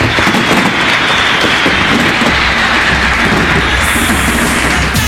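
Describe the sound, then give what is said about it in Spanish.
Steady, dense, spontaneous applause from a crowd, a loud crackling wash of many hands clapping at once that holds its level throughout without pauses or voices. “El aplauso partió, pero inmediatamente, espontáneamente.”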